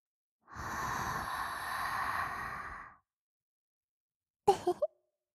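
A long, warm exhale blown right up against the microphone, lasting a couple of seconds, followed after a pause by a few quick, soft mouth clicks. No one speaks.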